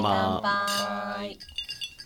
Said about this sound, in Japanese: 乾杯。 この音が涼しげ。